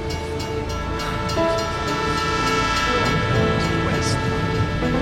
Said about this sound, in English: But she jumped on a passing tram and she was gone.